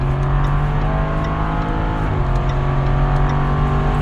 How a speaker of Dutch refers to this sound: Het stamt er weer lekker vandoor. De kenners hebben natuurlijk al gehoord wat voor motorblok dit is. Het is inderdaad een 8-cilinder, een V8 om precies te zijn.